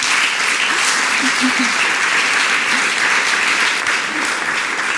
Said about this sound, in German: Ja, vielen Dank für Ihren Applaus.